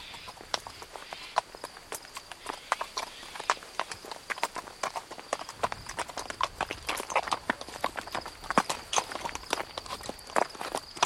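Horse hooves clip-clop steadily along a path, a regular series of sharp knocks that continues without pause, with a faint high hiss in the background.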